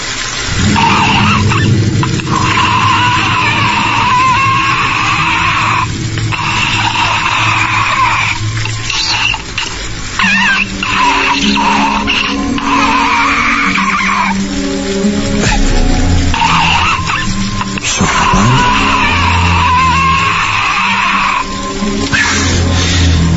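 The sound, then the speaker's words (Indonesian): An old water pump rumbles loudly and continuously, a rough mechanical drone with a grinding, whining edge that surges and dips slightly, with no voices. “Tiba-tiba suara mesin air itu terdengar bergemuruh.”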